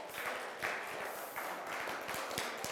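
A round of applause from a group: many overlapping hand claps blend into a steady, crackling wash with a few sharper individual claps, sustained at an even, moderate level without any voices.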